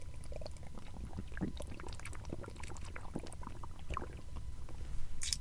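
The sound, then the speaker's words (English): Someone drinks coconut water, with soft wet sips, swallows and little liquid sloshes repeating over a low, steady background rumble, without any talking. “But this water is so good, man. Coconut water is a different thing.”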